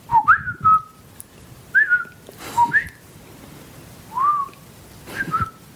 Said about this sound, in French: Alors on comprend pas ce que je dis puisque je siffle, ouais. Mais ça n'empêche pas que c'est du langage. J'utilise des intonations différentes, des longueurs différentes